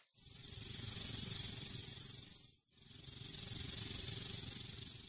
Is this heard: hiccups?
no